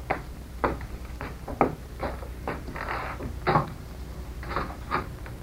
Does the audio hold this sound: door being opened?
yes